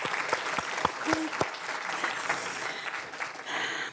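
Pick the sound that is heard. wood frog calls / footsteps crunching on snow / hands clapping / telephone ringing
hands clapping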